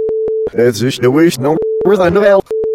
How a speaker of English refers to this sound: But I guess that whole thing is getting cut out, so. No, I'm just going to beep out the part about how I...